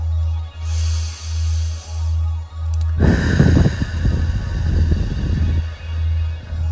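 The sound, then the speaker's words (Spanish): A slow, hissy inhale through the nose, then a longer, louder breathy exhale through the mouth, during a guided relaxation breathing exercise, over a low pulsing hum with no talking. “Inhalas por la nariz, exhalas por la boca.”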